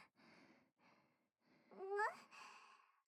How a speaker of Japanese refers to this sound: なんか息切れてる？